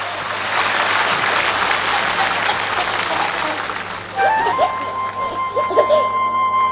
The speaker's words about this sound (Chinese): 这也是中央电视台春节联欢晚会举办21届来第一次由真正的业余演员在这个舞台上演唱他们自己创作的歌曲。 所以呢，我提议现场的朋友，让我们用热情的掌声来鼓励他们，好不好？